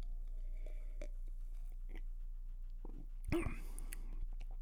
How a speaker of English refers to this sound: Let's take a sip here.